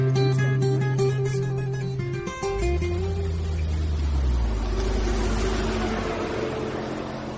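vehicle, car driving off

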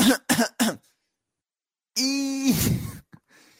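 human body sound, throat clearing

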